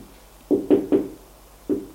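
Knocking on a wooden door off a long corridor: three quick raps, a brief pause, then two more. The knocks are solid, with no voices around them.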